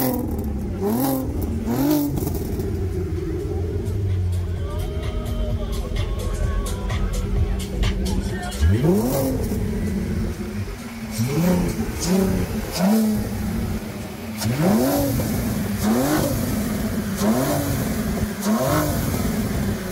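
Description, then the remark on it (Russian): A Volvo 544's engine revs up again and again, each rise in pitch swelling and falling back in a steady rhythm, loud, with a continuous rumbling idle between the bursts. “Volvo 544. Машину начали выпускать в 1947 и не могли остановиться 22 года, время от времени меняя детали, индексы, элементы оформления.”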